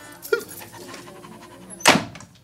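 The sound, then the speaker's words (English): A dog pants in quick, rhythmic breaths, broken by a short sharp sound early on and a louder, abrupt burst near the end. “Plus, what would I do with the dog?”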